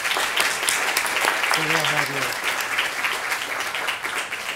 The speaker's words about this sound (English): So a round of applause for us.